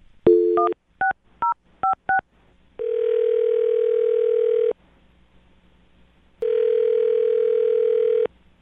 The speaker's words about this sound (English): Well, I'm going to dial his phone number right now and find out why he's not calling you back. Here we go.